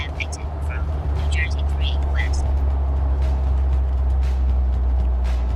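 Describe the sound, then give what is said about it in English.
A steady, loud low rumble of a car driving, heard from inside the cabin. The road noise stays constant throughout, with a few brief high-pitched squeaks near the start. “And the best part of this trip is I can do this show from the car like I'm doing right now.”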